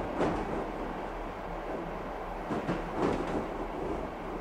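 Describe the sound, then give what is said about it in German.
A train rumbles steadily along the rails, with a low continuous roar and periodic clacking bursts as wheels pass over joints. Fairly loud, with no voices. “Im Zug von hier nach dort verändert sich der Ort.”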